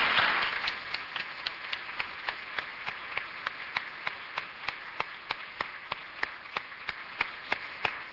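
An audience applauds steadily for several seconds, a dense wash of clapping with one sharp, evenly paced clap standing out above the crowd throughout; no one speaks.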